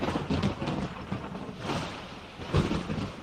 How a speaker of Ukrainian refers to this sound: Раптом, де не візьмись, почало гриміти. Небо чисте, на заході якісь 2-3 хмари, а гримить на грозу.